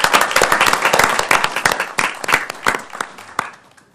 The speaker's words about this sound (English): Mayor and colleagues, these are the citizen volunteers who put in a lot of time. Could we give them a round of applause for their work?